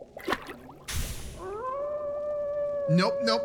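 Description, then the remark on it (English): A person lets out a long, steady dog-like howl that rises and holds for about a second and a half, preceded by a short breathy burst and brief vocal sounds. “Not gonna howl.”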